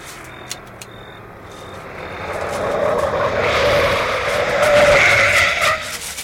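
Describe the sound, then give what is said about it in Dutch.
A car approaches with a rising engine roar that swells over several seconds, ending in a high, squealing tire skid as it pulls up. No one speaks. “Die wagen is er zo.”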